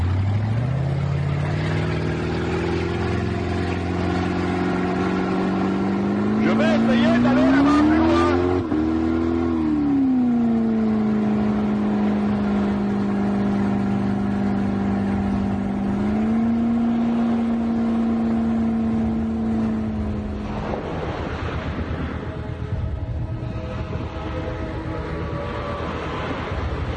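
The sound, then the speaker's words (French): A loud speedboat engine drones steadily as the fast boat heads far out to sea, revving higher for a few seconds before settling back into a constant hum, then roughening near the end. A voice speaks briefly over the motor. “Bateau rapide qui transporte Mankiller et le professeur Ebenezer Euthanasieff”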